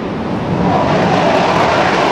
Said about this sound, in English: That's a Taiwanese jet fighter taking off in response to a Chinese military exercise, the largest ever around Taiwan.